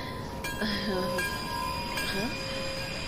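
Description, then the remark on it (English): A train's wheels squeal as it slows to a stop, high metallic whines wavering over a steady rumble, a few rising and falling screeches across a few seconds. “The train stopped.”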